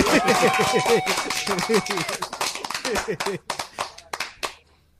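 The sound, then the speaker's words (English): A group of people claps in a dense, rapid burst of applause that thins into a few scattered claps before fading out, with excited voices chattering and cheering over it. “Can I give him a clap? Yeah, can I give him a clap? Give him the clap.”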